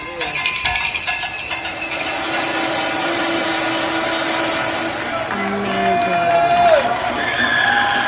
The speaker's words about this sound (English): Hundreds of millions of people turned out on balconies and in backyards around the world to cheer on healthcare workers battling coronavirus.